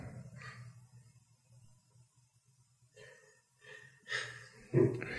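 Heavy breathing into a microphone, several breathy inhales and exhales growing louder toward the end, with no talking.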